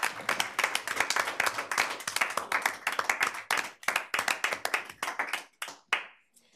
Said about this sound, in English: this is way outside the box in this chamber, I'm gonna ask for us to give a round of applause and appreciation to our Youth Council members because you guys are everywhere and you've done so much for us.